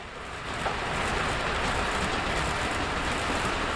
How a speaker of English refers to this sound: You know, a plane takes off, it goes into the clouds, it's gone. Train is right there with you. You know, the whole South Shore of Connecticut practically runs to the beat of the commuter trains.